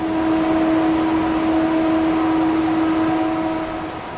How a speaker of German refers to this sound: Wir fahren weiter und müssen Ohrstöpsel einsetzen. Der Wagen passiert einen Gang mit den Ventilatoren für die Frischluftversorgung.